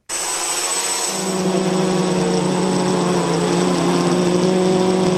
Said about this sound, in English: Here's a little drone sound for you.